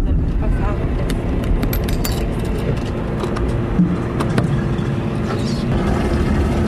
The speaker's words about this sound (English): Four empty water jugs bump around in the family's 1987 Toyota Corolla.